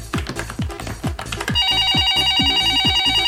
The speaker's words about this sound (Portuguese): Telefone tocando? Tava bom demais pra ser verdade.